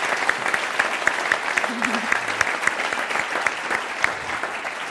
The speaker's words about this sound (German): Also erstmal danke an die Technik, trotz allem. Ist auch mal ein Applaus wert. Die Jungs dahinter haben einen super Job gemacht.